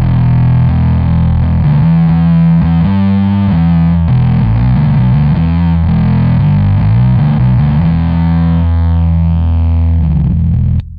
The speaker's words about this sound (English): that sounds killer, man. Yeah, thanks, man. And that bass is fabulous. I haven't seen one of these forever. Is it a new Armstrong or no, one of the it's older a ones? 1970.